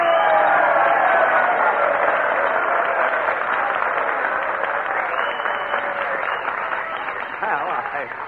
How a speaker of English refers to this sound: I'm sure that with a little encouragement and applause, we can get Jack Benny to come up here... and play a violin solo.